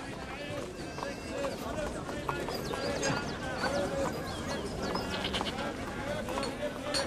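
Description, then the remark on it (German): Horse hooves clip-clop steadily as travellers on a horse and a donkey head to the great annual fair at Draglob, over a bustling background of indistinct murmuring voices and scattered bleats, the clattering growing more pronounced toward the end. “zu Pferd und zu Esel wieder unterwegs nach Draglob, wo der große Jahrmarkt, wie alle Jahre wieder, bereits seinen Anfang genommen hat.”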